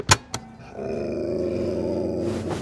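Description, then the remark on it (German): A dog on a bed lets out a low, steady growl lasting a couple of seconds, fairly loud, preceded by two sharp knocks or clicks. “Wer knurrt, muss runter vom Bett.”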